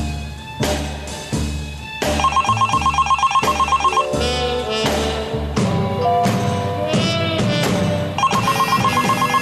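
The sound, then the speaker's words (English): A phone rings off the hook insistently in rapid, trilling bursts, loud, repeating over a dense, busy musical background with no one speaking. “My phone had been ringing off the hook for what seemed like an hour.”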